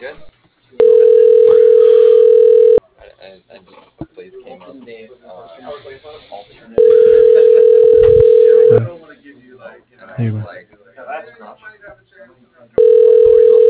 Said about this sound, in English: It's ringing.